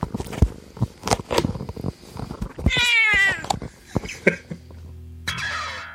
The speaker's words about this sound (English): And so does my cat, Molly, who's sitting right here. Come on, Molly.